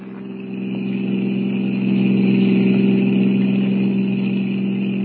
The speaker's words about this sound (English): Looks like we lost the car that was following us, Jack. Yeah, I figured we would. We're doing 90. This crate sure can travel.